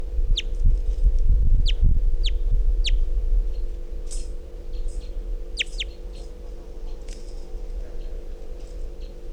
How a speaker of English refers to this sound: Very weak calls. Wild bird's still here.